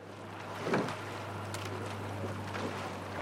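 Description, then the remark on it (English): A few soft, splashy swishes of oars skimming just above the surface and prying through the water of the Charles River as rowers prepare for a race before sunrise, spaced irregularly, heard over a steady low hum and light wind noise on open water. “Oars skim just above the surface before prying through the water.”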